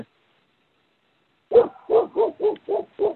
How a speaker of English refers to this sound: I hear a dog barking. Yeah, me too. That's Russell Wilson. I'm sorry. I can't figure out how to mute my phone. Russell Wilson is being a bad dog.